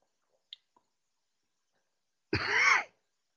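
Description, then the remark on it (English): A single harsh, sputtering cough bursts out after a stretch of near silence, preceded by a couple of faint small clicks, as someone chokes on a drink of water that went down the wrong pipe. “man, I just took a drink of water down the wrong pipe.”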